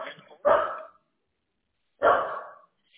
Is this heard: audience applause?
no